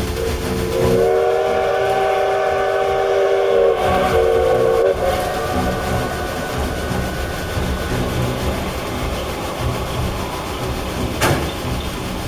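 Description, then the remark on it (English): A steam locomotive whistle blows in one long, loud wail lasting a few seconds as the train comes out of a curve, then cuts off, leaving the steady rumble of the moving train. “I'll blow the whistle.”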